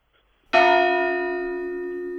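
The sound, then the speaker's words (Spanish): A large bell of the Cathedral of Santa María in Valencia is struck once, loud after a brief silence, its rich metallic tone ringing on and humming steadily with no voices. “Catedral de Santa María, Valencia.”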